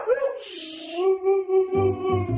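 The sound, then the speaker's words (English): A Siberian husky named Manson, with a gray coat and blue eyes, lets out a long, sustained howl at home, holding a steady pitch with wavering overtones, then breaks into lower, choppy yowling vocalizations near the end. “Manson is a Siberian husky. He has a beautiful gray coat, piercing blue eyes.”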